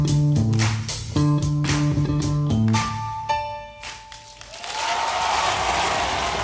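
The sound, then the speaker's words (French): A band plays a few bars with prominent bass and ringing sustained notes, then a dense, steady wash of audience applause takes over, with the bass line continuing beneath it, to the end. “ces applaudissements sont aussi pour vous.”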